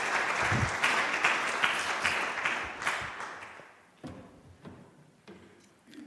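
An audience applauds with dense, steady clapping that gradually thins out, leaving a few scattered individual claps and thuds toward the end.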